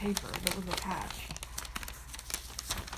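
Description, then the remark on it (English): A folded-up paper that was attached to a package crinkles and rustles as it is unfolded, a run of sharp dry crackles spread over a few seconds, with a voice briefly audible at the start. “The paper that was attached. I've unfolded it, and I'm going to scan it with Canopy Reader and see what it is.”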